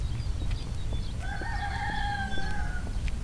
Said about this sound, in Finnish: Kuulen vain naapuritalon kukon kiekuvan.